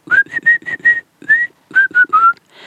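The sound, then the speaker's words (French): A person whistles a bird-like song: bright, high notes in quick bursts, a run of five, a lone longer note, then three more, with a breathy edge and no talking. “Et il s'est mis à chanter sa chanson que vous connaissez déjà.”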